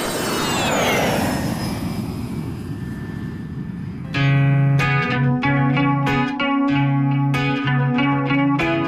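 A roaring airplane engine sweeps past with a falling whine over a broad rushing hiss, then gives way midway to music with sustained, chiming notes.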